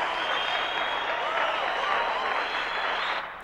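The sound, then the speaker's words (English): A steady wash of audience applause at the end of a play as the cast bows, many hands clapping together at an even, loud level throughout before tapering off slightly at the very end; several audience members give a standing ovation. “John and Hillary clap wildly in the lighting booth. Several audience members give her a standing ovation.”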